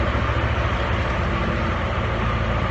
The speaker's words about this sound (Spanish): ¿Qué es eso? Un tractor.